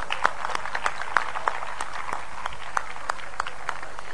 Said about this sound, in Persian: 2 تا آقای محترم تشریف بیارن این بالا، نفر اول، نفر دوم، هر دو رو تشویق کنیم.